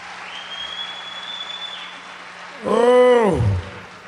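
An audience applauds steadily in a wash of clapping, with a thin whistle-like tone early on and a short, loud tonal shout rising over the crowd near the end.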